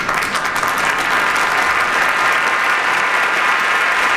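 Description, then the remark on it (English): Steady, loud applause from a crowd, dense clapping sustained evenly throughout without any pause or voices rising above it. “Good applause there.”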